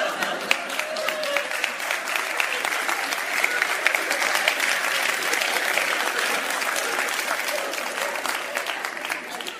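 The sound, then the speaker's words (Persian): A crowd applauds steadily for about ten seconds, many hands clapping out of sync in a dense, crackling wash that holds a fairly even level throughout, with no cheering on top. “تو دست زدن هم اختلاف فاز دارن ها.”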